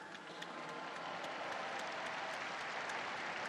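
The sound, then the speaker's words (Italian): Sustained applause from a large crowd for a newly beatified person, a dense, steady wash of clapping, continuous throughout with no speech over it. “Un applauso al nuovo Beato.”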